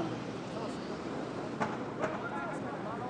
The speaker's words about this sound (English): It's a bit noisy, this traffic.